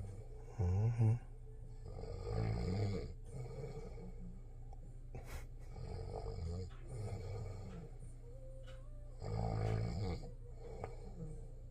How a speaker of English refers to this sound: It was me snoring. I don't snore unless I'm exhausted, like really, really exhausted. And even then, it's like a heavy breathing. I don't snore.